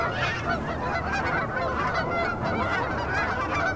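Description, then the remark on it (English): A dense flock of cackling geese honks continuously, with many overlapping high-pitched, yelping calls filling the whole stretch at a steady, fairly loud level and no pauses. “I think they're cackling geese.”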